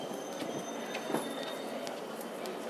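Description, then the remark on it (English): A train with no announcements rolls steadily along the rails, heard from inside as a constant rumble with a thin, high metallic whine and scattered clicks and knocks throughout. “You might have gathered audibly that there were no announcements on that train, which was very helpful.”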